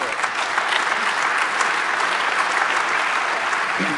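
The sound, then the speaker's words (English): Steady, dense applause from an audience for courts that ruled on surveillance safeguards, a continuous wash of clapping hands that stays loud and even throughout the few seconds without any voices rising above it. “And I think that deserves a round of applause for these courts.”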